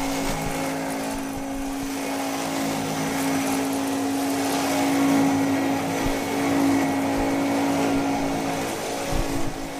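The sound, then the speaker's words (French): A vacuum cleaner runs steadily for the whole stretch, a loud, continuous motor whine with a broad rushing hiss. No voices, and the drone barely changes apart from slight swells in loudness. “Vous vous demandez pourquoi je commence ma chronique littéraire avec un long bruit d'aspirateur ?”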